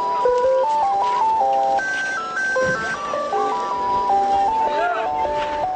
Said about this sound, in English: This bizarre scene here, simultaneously joyous and vengeful, became all the more strange when an ice cream truck arrived, carefully threading its way through the rubble before stopping next to eager customers.